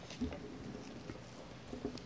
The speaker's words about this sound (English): Father, as we hear the rain fall on this roof, and as we look about us and then look within and look back, we can do little more than bless the Lord and give you our praise.